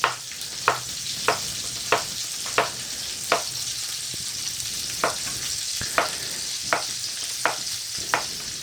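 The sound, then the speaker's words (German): Zucchini strips sizzle in a hot frying pan, a steady hiss broken by about a dozen sharp clicks at a regular rhythm as pieces land or are moved. No one speaks. “Jetzt habe ich schon welche in die Pfanne geschmissen.”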